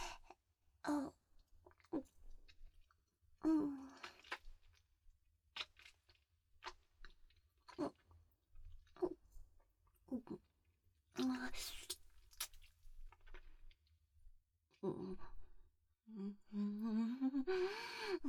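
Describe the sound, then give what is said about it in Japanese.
Wet, vulgar, noisy chewing and smacking mouth sounds arrive in irregular bursts of clicks and squelches, with a few short hummed, moaning vocal sounds near the end. “くっせーチンカンステーキでくちゃくちゃお下品に咀嚼するのやばすぎ。”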